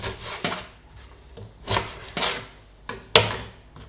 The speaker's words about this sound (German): Dazu schneiden wir jetzt mal 1/2 Zwiebel in ganz kleine Würfel.